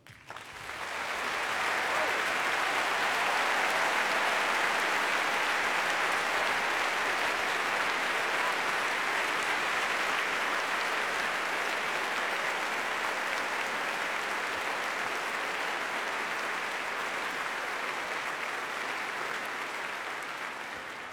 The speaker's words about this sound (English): Let's have a special round of applause for the composer of the music for A Matter of Loaf and Death, who's here today